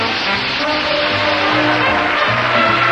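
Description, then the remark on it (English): A steady, loud rumbling roar with low droning tones underneath, like a train, continuous for the whole stretch with no voices: a train loaded with prizes pulling into a train depot. “this showcase features prizes delivered to our train depot by the Price is Right train. Here she comes now”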